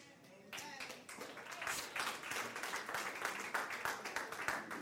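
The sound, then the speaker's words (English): An audience at a sermon breaks into dense, sustained applause after a brief quiet start, many hands clapping loudly and steadily for several seconds with no speech over it. “Now, I hope y'all clap that hard when I go to the other side, because I'm an equal opportunity preacher.”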